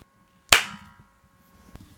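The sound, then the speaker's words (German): One sharp, bright hand clap, made after a deep breath as part of a guided exercise, rings out and decays quickly, followed by a fainter tap and quiet background shuffling. “Du bringst jetzt diese Sonne hinein in die dunklen Situationen, tief einatmest und dann aufeinander klatscht die Hände.”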